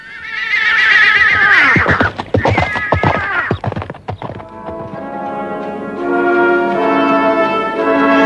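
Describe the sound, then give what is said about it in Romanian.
A horse being mounted by a rider lets out a loud whinny, followed by a quick burst of hooves clip-clopping, then sustained tonal music takes over. “Florea încălecă pe un cal falnic și glăsui astfel către cei doi frați”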